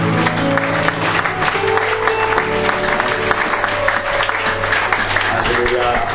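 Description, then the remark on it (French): A church audience applauds and cheers as an offering of acclamation to God, in a dense, steady wave of clapping and shouts, loud throughout, with a sustained keyboard chord humming underneath and voices mixed into the crowd noise. “Sois à l'honneur notre Père et reçois donc cette offrande d'acclamation.”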